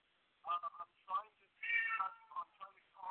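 A cat meows several times in a row, a string of short, bright calls with one longer drawn-out meow in the middle, moderately loud.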